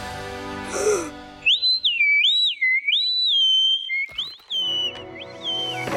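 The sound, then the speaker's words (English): A loud, shrill whistle, a newly invented one made extra loud to call dinosaurs from a long way away, blows in wavering, warbling bursts for several seconds, sliding up and down in pitch, preceded by a brief musical sting with nobody talking. “It's my brand new invention. The Dino Ranch Whistle.”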